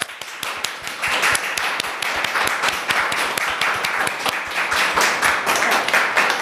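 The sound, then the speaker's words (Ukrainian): A crowd at a Ukrainian community gathering in Rzeszów, Poland, breaks into loud, sustained applause to welcome a woman, many hands clapping in a dense, steady patter that stays strong for several seconds without any voices. “Тому давайте ми зараз її привітаємо гучними просто оплесками.”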